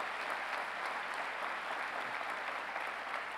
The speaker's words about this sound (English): Let's give Mr. Jacobs and the Jacobs family a round of applause.